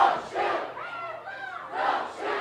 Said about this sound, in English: Protesters putting their hands up, screaming, "Don't shoot."